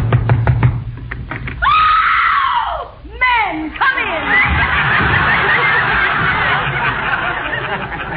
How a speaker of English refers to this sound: Well, here's Tessie Tinfoil's house. I hope she's home. Go ahead and knock.